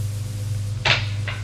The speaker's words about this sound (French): S'approche du lit. Prend une chaise